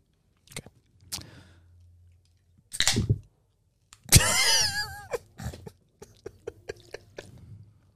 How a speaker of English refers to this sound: It's like ASMR, bro, with the drink of the water.